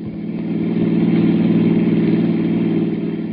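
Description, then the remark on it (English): A car engine hums loudly while driving on the road to the small town of Midvale, swelling slightly as it revs, then holding a steady throaty drone for a few seconds with no voices. “in my car on the road to the little nearby town of Midvale.”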